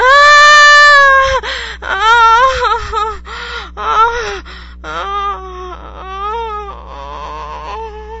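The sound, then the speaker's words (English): A loud, drawn-out vocal moan opens, followed by a series of shorter breathy moans and gasps in an uneven rhythm during orgasm, with a low steady hum underneath. “My panting and mooing only encourage you to continue, and I grab your hair and arch my back as I feel orgasm rush.”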